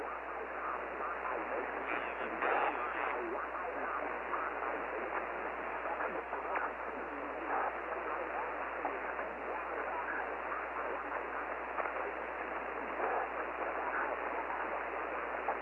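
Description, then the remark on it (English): Steady, dense radio static hisses on an amateur band for the whole stretch, with faint garbled voices flickering through the noise now and then, band-limited and constant in loudness. “much static and a few voices there with you.”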